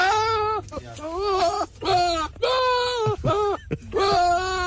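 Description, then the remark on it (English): A goat bleats loudly, about five drawn-out, wavering cries in quick succession that sound strikingly like Will Ferrell wailing in distress, with no other sounds around them. “The goat that sounds like Will Ferrell in distress.”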